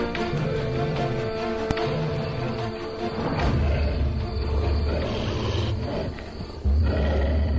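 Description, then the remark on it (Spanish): Wolves in their cage in London growl and snarl at dinner time, 7:30 p.m., in a deep, rumbling chorus, loud, with overlapping throaty sounds swelling continuously and no voices. “De Londres, jaula de los lobos, 7:30 p.m.”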